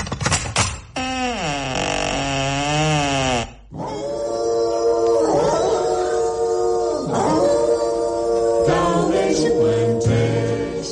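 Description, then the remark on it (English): Two Dalmatian dogs on Cruella's doorstep, hackles raised, growl fiercely at a strange woman and howl loudly in long, wavering cries that rise and fall. Rough growling tones are mixed in, with only a brief pause partway through. No one speaks. “There, on Cruella's doorstep, were two inquisitive-looking Dalmatian dogs, their hackles raised and growling fiercely at the strange woman.”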